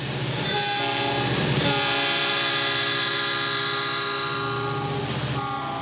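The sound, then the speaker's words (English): A passenger train's horn blares loud and sustained for several seconds over the rumble of the moving train, with no voices present; the train of Elizabeth May's Green Party of Canada whistle-stop campaign tour. “Meanwhile, Elizabeth May recently began a campaign tour by train, opting for a more green approach, unlike the aircraft used by her political opponents.”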